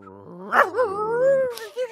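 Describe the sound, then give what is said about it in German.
A person makes a stage sound effect with the mouth, imitating an animal call: a dog-like whine and yelp rising and sliding in pitch for about two seconds, fairly loud, with a short yip at the end. “Ist mir zu hundig? Könnte mehr Vogel sein noch?”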